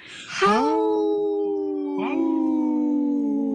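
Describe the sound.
A person imitates a wolf howl during the radio show Native Roots Radio Presents I'm Awake: a loud, sustained, mid-pitched cry that rises at the start and holds steady, with a second rising howl joining partway through. No talking.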